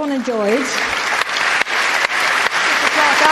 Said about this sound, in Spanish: Pero este equipo se merece celebrar y merece ser escuchado, y les voy a dar de nuevo un gran aplauso y espero que se unan a él.